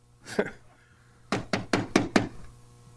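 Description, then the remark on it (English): Five firm knocks in a steady, evenly spaced rhythm, fairly loud, like knuckles rapping on a wooden door, preceded by a brief vocal sound. “It wasn't literally a knocking like that, but I sensed the Holy Spirit saying, go to the altar.”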